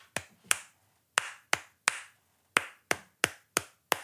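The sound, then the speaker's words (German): Crisp hand claps tapping out the rhythm of the Christmas song Jingle Bells without melody, two quick claps and a pause, repeated, then a steady run of four, about ten claps in all, alone with no talking. “Ich klatsche jetzt mal ein Weihnachtslied.”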